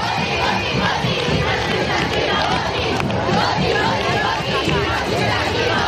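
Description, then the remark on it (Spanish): A large International Women's Day protest crowd of women and men shouts and chants in the street on March 8 in Spain, a dense, continuous roar of many voices, loud and steady throughout with overlapping yells. “¡Otra vez llenando las calles! ¡Que se grita! ¡Que se grita!”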